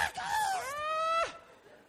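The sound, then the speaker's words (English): A voice imitates a frightened scream at seeing a white ghost: one sustained, wavering shriek lasting about a second, rising and then sliding down before cutting off abruptly, loud. “And we would scream.”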